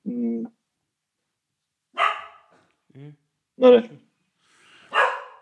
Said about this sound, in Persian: آروم باشین، آروم باشین. آره اینم سگایی که ما ازشون بیبی سیت میکنیم.